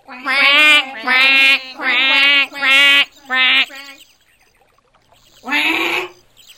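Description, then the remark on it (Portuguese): Ducklings give five loud, nasal quacks in quick succession, each a buzzy burst, followed by a pause and then one more harsh, drawn-out quack, calling loudly for their sibling to hatch. “Vamos grasnar bem alto pra ver se ele nasce logo.”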